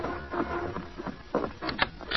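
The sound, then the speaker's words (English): Several sharp knocks on the door of the Kilby Ranch house in the evening, a few loud raps bunched toward the end over a dull background hiss, with no voices. “The following evening, there was a knock at the door of the Kilby Ranch house.”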